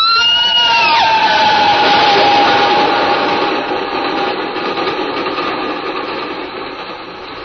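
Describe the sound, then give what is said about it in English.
A train rushes past with a loud, steady rumbling roar and a brief whistle-like tone that drops in pitch early on, then the noise gradually fades as it moves away. “Why does the train frighten you so?”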